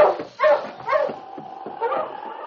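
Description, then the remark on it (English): A husky barks and whines in a quick series of yelping, howl-like calls, fairly loud, with short pauses between the sharp cries, raising its head on a trail after catching a faint scent of oil. “He raised his head and barked.”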